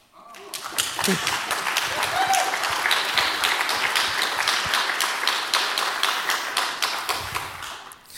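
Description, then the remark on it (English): Sustained audience applause at the FrostCon conference for the organization team: many hands clapping in a dense, steady crackle that starts abruptly and holds at an even, fairly loud level for about eight seconds before easing slightly at the end. “So again, a big applause to them.”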